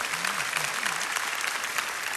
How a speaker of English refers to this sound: And get that awkward clap thing going. I know, I should have just let you do it, but so go ahead.